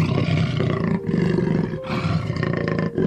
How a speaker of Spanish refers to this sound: De pronto, algo la hizo estremecer. Escuchó muy cerca el rugido de un yaguareté.